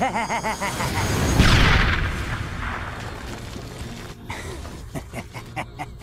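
A small bomb planted under floor tiles explodes with a deep, muffled boom that swells and fades over about a second, followed by scattered clicks and faint game-like noises, with a brief voice beforehand.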